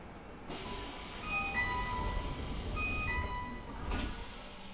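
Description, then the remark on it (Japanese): Inside a train, a bright electronic chime plays a short repeating tone pattern twice over steady carriage rumble as the doors close, with sliding-door thumps at the start and end. “ドアが閉まります。ご注意ください。閉まります。”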